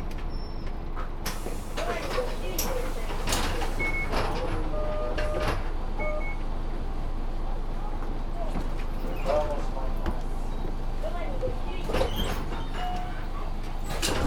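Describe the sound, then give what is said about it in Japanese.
A route 504 bus bound for Tenjin comes to a halt at the Ishimaru Shinmachi stop and its doors open, with a steady engine rumble, a series of sharp clunks and rattles, brief beeps, and muffled voices in the background. “はい、まもなく石丸新町です。バスが止まってから席をお立ちください。”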